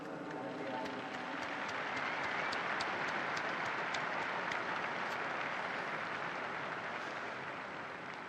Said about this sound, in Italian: Un applauso ai nove beati.